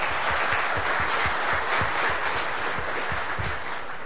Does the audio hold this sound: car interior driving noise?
no